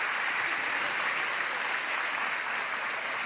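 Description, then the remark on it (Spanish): A crowd claps steadily for about three seconds, a dense, even wash of many hands with no voices over it and no break in the applause. “Damos un aplauso.”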